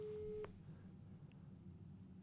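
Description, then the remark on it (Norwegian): A single steady phone ringback tone sounds for about half a second while calling Jan Thomas, then cuts off, leaving a quiet low background hum with no talking. “Ringer etter Jan Thomas.”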